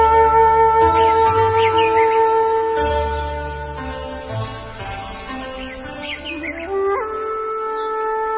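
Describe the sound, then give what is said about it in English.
Forest birds chirp and call in the canopy at dawn, claiming their territories, in brief rising bursts over a steady, humming tonal backdrop, several voices scattered across the scene, with no one speaking. “As dawn arrives, forest birds claim their territories in the canopy.”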